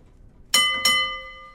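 Two quick strikes of a mine signal bell, signalling that the mine lift is ready to be raised, a fraction of a second apart, each a bright metallic clang whose high ringing tones linger and slowly fade. No one speaks.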